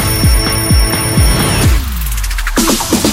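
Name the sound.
alarm clock ringing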